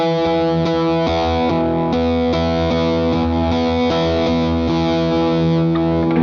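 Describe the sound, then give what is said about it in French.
A heavily distorted electric guitar chugs a mid-low power chord, struck repeatedly in a steady rhythm with thick sustained harmonics, loud with no one talking. “Donc là, en fait, on va appliquer cette technique-là à un power chord demi grave.”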